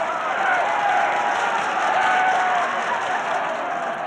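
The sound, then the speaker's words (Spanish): A crowd bursts into loud, sustained applause for a speech, a dense steady roar of clapping with some cheering mixed in, holding at full strength for the whole stretch. “La multitud se rompía las manos de tanto aplaudir.”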